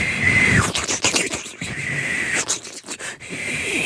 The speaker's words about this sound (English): That was a kettle boiling.